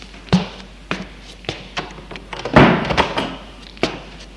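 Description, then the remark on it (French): A door is handled with a few light knocks and clicks as a woman lets someone in, then swung shut with a solid, muffled thud, followed by a couple of softer taps. No one speaks. “Elle l'embrasse, le fait entrer et ferme la porte.”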